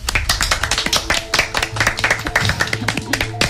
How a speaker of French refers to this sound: Les candidates du jour qu'on va pouvoir applaudir à ma gauche.